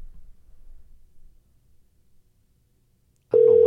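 Faint low rumble gives way to near silence, then a loud, steady ringback tone suddenly starts right at the end, as an outgoing phone call begins ringing.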